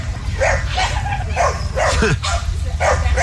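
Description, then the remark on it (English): Several small dogs at three campsites surrounding the listener bark and yip in quick, overlapping bursts at night while camping, over a steady low rumble of outdoor background noise. “So this is three different campsites all surrounding me, and there would be one dog that would start the chain reaction of all the other dogs.”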